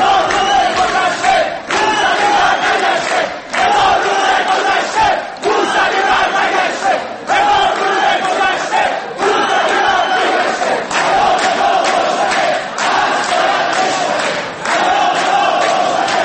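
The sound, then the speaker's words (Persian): A large crowd of students chants slogans in unison during Sheikh Hassan's speech, loud and steady, with rhythmic bursts of shouting repeating roughly every two seconds: a thousand days have passed, Mousavi has not returned, the house arrest must be broken. No one speaks separately from the chanting. “در اواسط صحبت‌های شیخ حسن یه تعدادی از دانشجویان تصمیم گرفتن که یه سری از مسائل رو به ایشون اینطوری ببخشید اینطوری که الان میشنویم یادآوری کنن و بگن که هزار روز گذشته موسوی بر نگشته، پیام ما روشنه، حصر باید بشکنه.”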